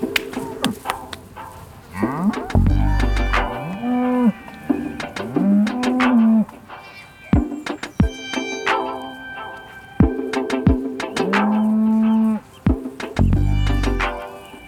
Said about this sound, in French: Voilà, elles sortent. Allez, allez, là, là, allez ! À 70 vaches hein, qui remontent, c'est vrai que ça prend un peu de temps.